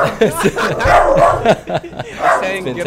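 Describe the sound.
The speaker's dog, Priya, barks several times in quick bursts at home while people talk over it and chuckle in the background.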